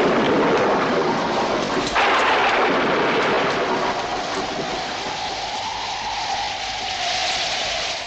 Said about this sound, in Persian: بارون داره مثل سیل میاده که بذاریم بیام تو براتون توضیح میدم.